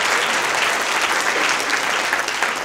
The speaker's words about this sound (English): You can applaud yourself for that.